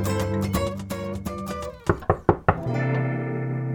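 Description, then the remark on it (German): Four firm, evenly spaced knocks on a kitchen door ring out clearly as gentle background music briefly dips, then the music swells back in. “Da klopfte es an die Küchentür”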